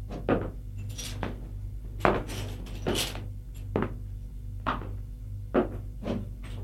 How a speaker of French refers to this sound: Porte de l'appartement qui s'ouvre. Des pas dans le couloir.